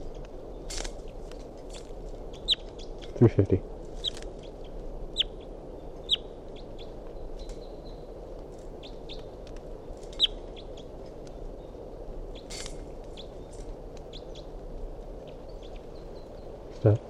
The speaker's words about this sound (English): Recording a wild bird.